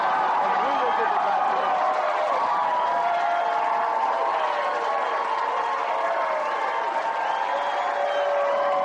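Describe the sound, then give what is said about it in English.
A large crowd at John Edwards's victory celebration in Columbia, South Carolina, after his South Carolina win in the 2004 Democratic presidential primaries, roars and cheers without letup, a dense wash of shouting and whooping voices with scattered clapping, loud and steady throughout. “Ecstatic crowds as John Edwards celebrates a victory in South Carolina tonight.”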